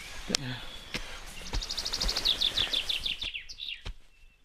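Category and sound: bird, birds singing outdoors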